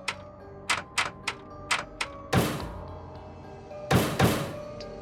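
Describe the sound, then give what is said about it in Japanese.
Someone outside knocks on a locked apartment door: a run of quick, sharp raps, then three heavy, booming pounds that ring out briefly before fading, with no voices. “私がそこにいることに気づいたのか、誰かはまたドアを叩き始めた。”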